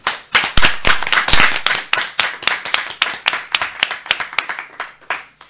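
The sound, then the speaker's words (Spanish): A burst of applause: many hands clapping in a dense, uneven patter of sharp claps, loud at first and thinning out and fading toward the end, with no voices. “Un aplauso.”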